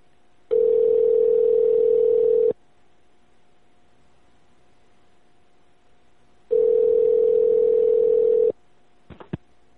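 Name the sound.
telephone call ringing unanswered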